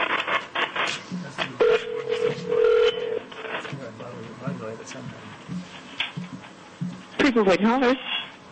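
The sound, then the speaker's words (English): A telephone call is placed during a Federal Election Commission meeting on Draft Advisory Opinion 2011-27, New Mexico Voices: a steady electronic tone sounds for a second or two, then a warbling ring later on, all over a murmur of indistinct voices. “And at this time, we will see who we get on the phone.”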